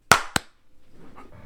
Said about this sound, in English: calls a mulligan on the clap